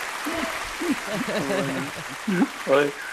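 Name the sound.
applause sound effect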